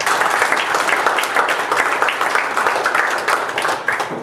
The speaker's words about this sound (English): Understand, Jesus is the way, the truth, and the life. Give the Lord a hell of a applause.